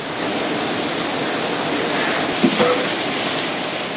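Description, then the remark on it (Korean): A meatless Impossible Burger patty sizzles on a grill at a restaurant in Los Angeles, a steady, dense crackling hiss that holds evenly throughout, with a couple of slightly sharper pops just past the midpoint. No one speaks. “미 서부의 대도시 LA의 한 식당에서 햄버거 안에 들어가는 패티가 요리되고 있습니다. 지글지글 불 위에서 익어가는 모양이 영락없는 쇠고기인데요.”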